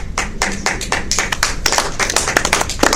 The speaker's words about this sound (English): I'd like to thank you guys for coming. This is our applause, because we're out of time as well. But thanks for sharing the film with us, and for you guys sharing your thoughts about it.